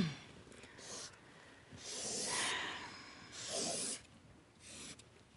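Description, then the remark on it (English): A pen scratches across paper in several short, uneven strokes as someone draws their favorite data structure by hand, soft scraping bursts separated by brief pauses, with no talking. “And, even though this is a technology kind of show, we make people do this with a pen and paper rather than a computer screen and things like that.”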